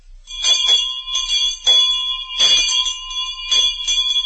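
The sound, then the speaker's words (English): A loud bell rings on its own for a General Electric Ring the Bell contest announcement, struck again and again in uneven bursts roughly a second apart, its bright metallic tone sustaining and overlapping between strikes. No one speaks. “General Electric rings the bell with a wonderful contest for you.”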